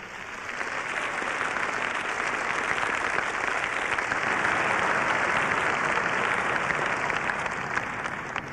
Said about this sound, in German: Alle Veranstaltungsorte der Schweiz grüßen euch nun mit einem kräftigen Applaus. Und wir grüßen mit einem kräftigen Applaus zurück.